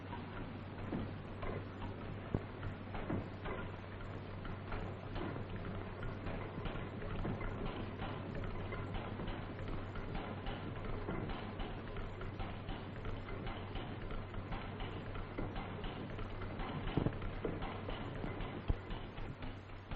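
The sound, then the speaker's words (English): An early experimental diesel engine, built at Augsburg in Germany in 1893, turns over steadily under belt drive without running under its own power, a dense, rhythmic mechanical ticking and clatter running continuously over a constant low hum, moderately loud. “This engine never ran under its own power.”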